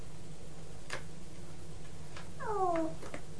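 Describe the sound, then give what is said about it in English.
A single short, falling meow from a cat being walked, with a few faint ticking clicks before it over a low steady background hum. No one speaks. “Oh, I'm walking the cat again. I'm walking the cat.”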